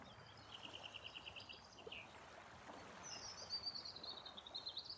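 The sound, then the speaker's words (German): Soft, steady lapping of lake water fills the background while small birds chirp in high, rapid trills, one call early and a longer one near the end. “Höre das Plätschern des Sees.”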